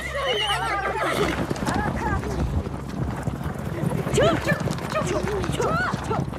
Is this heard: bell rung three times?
no